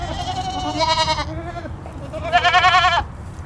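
Goats bleat loudly, with two long, wavering cries standing out over a steady murmur of other bleating from the herd.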